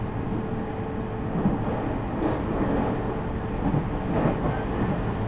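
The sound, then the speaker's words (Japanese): A steady, dense rumble of an eight-car passenger train bound for Ogaki, heard from inside the carriage, with faint rhythmic clatter and occasional brief hisses riding over the constant low roar. No voices. “列車は8両で運転しております。”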